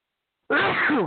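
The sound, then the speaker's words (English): A single loud, abrupt sneeze bursts out after a moment of silence, with a brief voiced tail as it fades. “I always get blessed when I sneeze, but never when I cough.”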